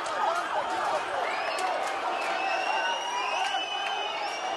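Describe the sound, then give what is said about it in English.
A large outdoor crowd of protesters blocking a highway in Tel Aviv, Israel, roars steadily, a dense wash of many voices shouting together, with occasional higher cries and whistle-like tones rising above the din throughout. “At first, protesters in Tel Aviv blocked a highway, snarling traffic for hours.”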